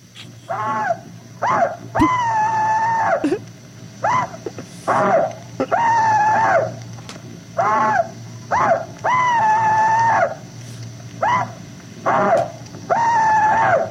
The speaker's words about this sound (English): All right, I got the clip of the Rebel Yell. Are you ready? Yes. Here goes nothing. Now, here is one Confederate veteran's rebel yell.